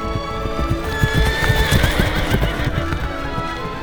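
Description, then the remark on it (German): Horse hooves clip-clop in a steady rhythm as a king's daughter rides quickly away from home on horseback with her chambermaid, while a horse whinnies with rising, tonal neighs over the top. No one speaks; the sounds are fairly loud and continuous. “Das Läppchen aber steckte die Königstochter in ihren Busen, setzte sich aufs Pferd und ritt nun mit der Kammerjungfer rasch von zu Hause fort.”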